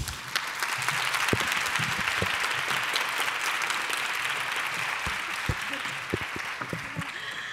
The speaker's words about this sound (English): Thank you so much, everyone. Let's give Caroline another round of applause.